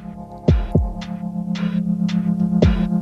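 The instrumental intro of a song from 2026: a steady low droning tone with heavy, booming kick-drum thumps and bright, hissing percussive hits landing in a loose rhythm, loud, with no voices.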